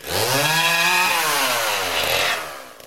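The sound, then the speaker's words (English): A chainsaw engine revs loudly and steadily, its harmonic pitch sliding as it bites and cuts through material, alone for nearly three seconds before tapering off. “I mean, it's some precision work that I don't know if Chainsaw can really do it, but he tried.”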